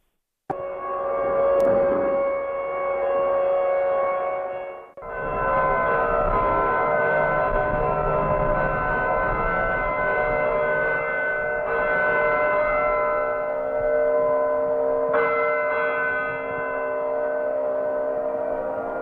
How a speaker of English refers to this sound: But we hear sirens and some church bells, which were rung at 7 in the morning.